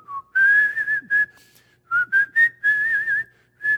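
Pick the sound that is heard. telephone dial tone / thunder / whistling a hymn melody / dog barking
whistling a hymn melody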